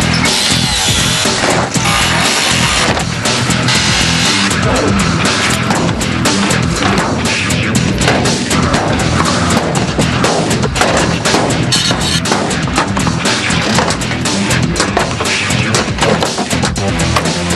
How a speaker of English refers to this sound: attacks the hearse with every tool in their arsenal.